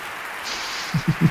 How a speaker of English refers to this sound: And they're applauding. That is the national anthem, the Star-Spangled Banner of the United States of America.